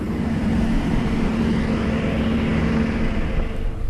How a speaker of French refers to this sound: Et puis maintenant, donc, vous entendez le son décroître et l'avion est en train de partir sur les taxiways pour aller prendre la piste.